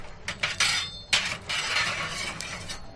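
Chestnuts rattle and clatter as they're shaken in a roasting pan at a family-run chestnut stall in the Plaza de Callao, Madrid, a dense, bright jangle that swells in several quick bursts over about three seconds, with no one talking.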